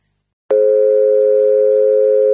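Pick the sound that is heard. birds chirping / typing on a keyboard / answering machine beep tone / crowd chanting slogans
answering machine beep tone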